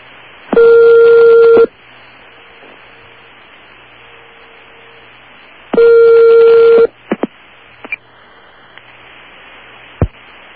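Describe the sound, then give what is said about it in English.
A dialed telephone number rings twice, each loud, buzzy ring lasting about a second with a long pause between, followed by a few sharp clicks over a faint line hiss. “I do believe it's ringing.”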